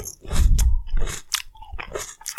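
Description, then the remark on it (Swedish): Loud, wet open-mouth chewing, with repeated smacking and crunchy bites in an irregular rhythm, no talking. “Så ska vi se om det smaskar eller inte.”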